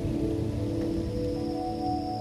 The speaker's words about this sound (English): For a brief moment at twilight, the forest seems of human scale, somehow manageable. But then comes night, and perhaps a downpour.